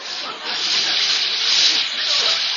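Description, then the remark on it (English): A hot shower runs with a steady hiss of spraying water, continuous and fairly loud throughout, with no voices over it. “Well, now for a nice hot shower and then to bed. Well, let me reach behind the curtain here and turn on the water.”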